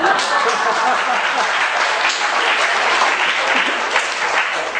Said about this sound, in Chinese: 谢谢台北堂宣教团契稀稀落落的掌声。开玩笑，开玩笑。